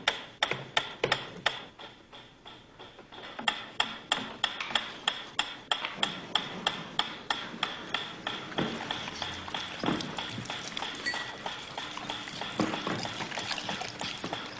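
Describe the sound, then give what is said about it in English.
A metronome ticks steadily, its sharp, evenly spaced clicks repeating about three times a second with no voices, fairly crisp throughout, sounded as a stimulus before feeding in a dog conditioning experiment. “A ticking metronome.”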